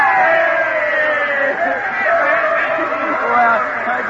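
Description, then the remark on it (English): A large student crowd at a giant campus rally, on the evening before a baseball game, cheers and shouts together: a dense, steady roar of many voices holding loud for the whole stretch without pause. “it's the evening before the game, and a giant student rally on the campus is just breaking up.”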